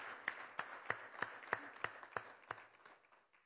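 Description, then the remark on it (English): An audience applauds a 16-year-old girl, a dense wash of clapping with strong claps landing in a steady rhythm roughly three times a second, fading slightly at the end. No one speaks. “We're going to just say, you know what, let's give her a hand of applause.”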